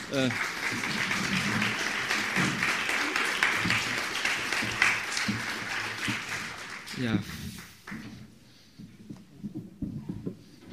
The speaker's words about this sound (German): Vielleicht mit einem kleinen Applaus, das würde